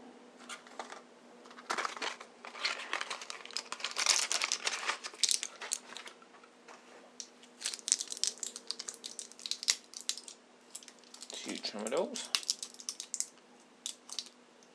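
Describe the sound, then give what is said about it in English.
Crinkling and crackling of an empty Tramadol medicine blister packet, a steady run of sharp, bright plastic-and-foil rustles with irregular snaps, fairly loud and continuous for the whole stretch, with no talking. “an empty packet of Tramadol.”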